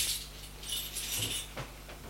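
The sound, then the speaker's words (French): Metallic jingling and scraping of a key locking the door of a man's home, followed by a couple of short sharp clicks as the bolt turns. No one speaks. “Chez lui, il ferme bien la clé.”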